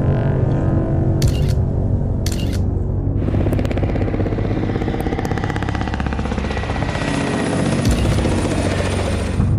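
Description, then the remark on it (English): A helicopter roars close overhead, its rotor chop thudding loudly and steadily. Brief clicking bursts punctuate the first few seconds before the engine noise swells and fills the scene. “Not long after releasing his images, the infamous black helicopters appeared, flying very close to his house.”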